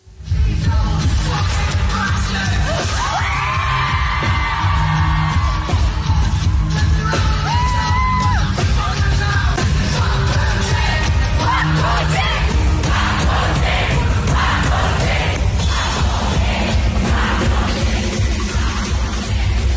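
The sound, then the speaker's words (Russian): A large concert crowd sings and chants loudly together, many voices yelling and whooping in a steady rhythmic mass that holds at full volume throughout, chanting insults at Putin. “В размере поет зал, все хорошо.”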